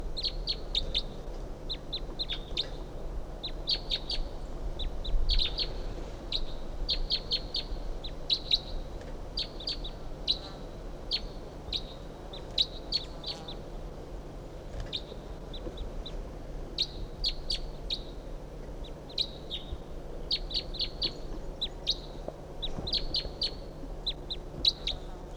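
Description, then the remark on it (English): A Type 2 wild bird calls repeatedly from the top of a medium-sized ponderosa pine about 50 yards off at 7:51 a.m., giving bursts of short, high-pitched chirps with brief gaps between clusters, over a steady low rumble. No one speaks. “This is bird 358, and there's a wild bird coming in.”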